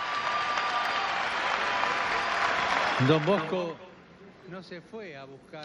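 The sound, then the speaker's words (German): An audience applauds for Don Bosco in a dense, steady wash of clapping for about three and a half seconds. It then fades as a man begins speaking over the last scattered claps. “Ja, einen Applaus für Don Bosco.”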